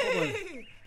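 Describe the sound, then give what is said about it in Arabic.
A short, high horse whinny with a wavering pitch that slides steadily downward, heard alone for under a second. “مرحبا يا حصان.”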